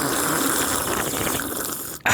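Two people slurp coffee together in one long, steady, airy sucking noise that lasts about two seconds, then cuts off sharply. No talking over it.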